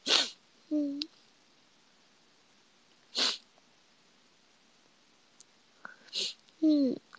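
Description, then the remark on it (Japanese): Three sharp, breathy sneezes burst out, spaced a few seconds apart, with short nasal voiced noises in between against a quiet background. “やばくしゃみしそう。”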